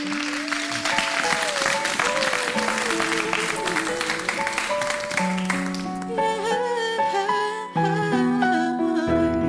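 Loud, dense audience applause welcomes a performer onto the stage during the Génération Consciente segment of a show. The clapping fills the first several seconds over a sustained musical backing, then thins out while the music carries on alone.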